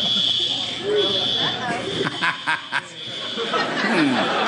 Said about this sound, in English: When I first heard that, I thought it was the crickets a comedian hears. No. What is that? It's probably some kind of smoke alarm, fire alarm.